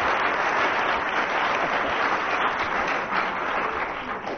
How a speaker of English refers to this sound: Some of that applause must go to … at the piano there, who was given no cue whatsoever and came in as a result late.